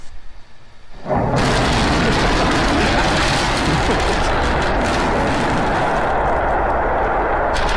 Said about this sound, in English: They went to launch a rocket on SpaceX. We're preparing to restart two engines, flip the vehicle vertical, then transition to one engine for the landing burn.